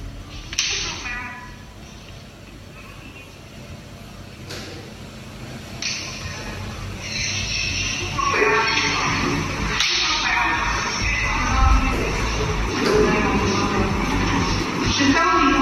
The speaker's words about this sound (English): That's the sound of slaps. Look at that. Slapping her. So that's the sound of a student being the recipient of slaps. It's a student of Leeds British School in Abuja.